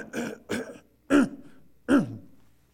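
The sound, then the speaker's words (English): A person with a broken rib, unable to cough, clears their throat four times in quick succession, two short rough huffs followed by two louder, voiced throat-clearing grunts, with no talking. “I broke a rib 3 weeks ago and I haven't coughed in 3 weeks. So I have to try to clear it like this.”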